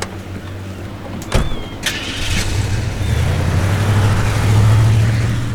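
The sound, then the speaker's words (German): A car door shuts with a couple of sharp clunks, then the engine starts and settles into a steady, rising hum as the car pulls away, fairly loud, with no talking. “Ich setze mich in den Wagen.”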